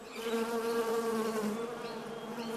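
honeybees buzzing

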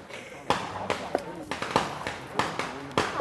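firecrackers being set off

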